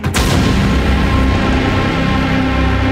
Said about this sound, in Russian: Буфер из полимерного материала, понятно, был сметен. Взрывом сбросило один из манекенов на землю, но машина даже не дрогнула.